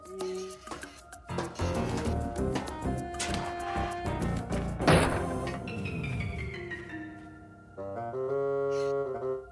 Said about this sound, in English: A trap door.